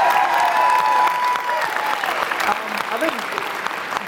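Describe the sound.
An audience applauds steadily for about four seconds, a dense crackle of many hands clapping at even loudness, with a few voices calling out over it near the start.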